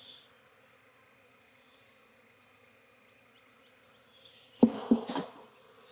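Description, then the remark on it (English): A steady, low drone of many honeybees buzzing around an open hive, with a swell of louder, busier buzzing near the end as bees fly past. No one speaks. “She's got plenty of bees to take care of her.”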